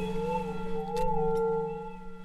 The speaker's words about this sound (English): So the singing bowls each contain a different note, and the vibration of the sound helps to penetrate the body to release stress and issues in our tissues.